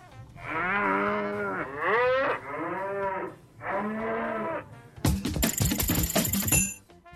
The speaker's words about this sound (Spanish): La vaca quiere participar.